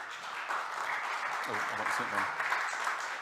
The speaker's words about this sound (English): Little clap for him.